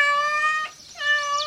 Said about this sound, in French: Le chat répond.